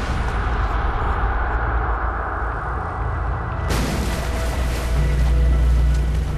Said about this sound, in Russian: Здесь, в бурлящих водах южноафриканской бухты Фолс-Бэй, ребята находятся уже на пределе от работы на крохотной акульей лодке. Мы пытаемся работать в этих безумных бурных водах.